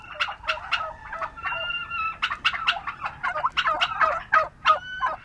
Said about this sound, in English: Turkeys can wander around a roomy pasture at Springfield Farm in Sparks, Maryland. Every November, hundreds of people come here to pick up their holiday meal.